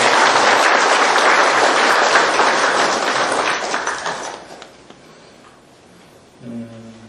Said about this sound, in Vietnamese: xin đạo tràng cùng cho một tràng pháo tay để chúc mừng.